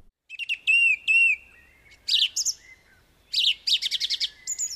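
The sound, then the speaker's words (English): A song thrush sings clear, belting out bright whistled phrases and rapid chattering notes, each phrase repeated two or three times with short pauses between. “Listen carefully to the song thrush, and you'll notice it repeats each phrase of its song two or three times.”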